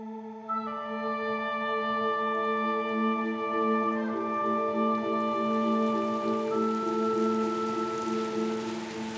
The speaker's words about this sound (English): The rain started coming just as I had sat down around 12:30 p.m. to watch my favorite reality show.